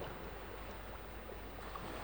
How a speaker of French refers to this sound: Et la rumeur des vagues. Un grondement lent et continu.